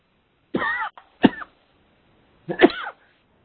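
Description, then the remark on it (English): Three harsh coughs from one person: two in quick succession, then a short pause before a third, longer cough. No talking, just the coughing. “I need to both go mute and cough at the same time and talk, so it's very difficult.”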